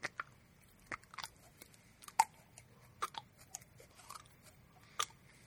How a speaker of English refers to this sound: they can't see you working the putty